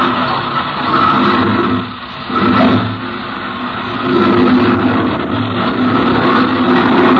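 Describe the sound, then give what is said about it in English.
A propeller plane engine, started as a lieutenant spins the propeller by hand with Captain Bellows in the cockpit, catches and roars, dipping briefly before settling into a loud, steady drone that fills the whole stretch with no voices. “Captain Bellows climbed into the cockpit, and the lieutenant spun the propeller.”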